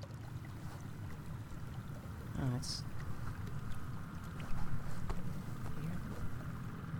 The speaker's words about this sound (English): It's like a desiccated humming. To those still counting, something unusual has been heard on the horizon. Have a listen. Something on the water, not under. It's a motor. I am 80% sure it's a motor.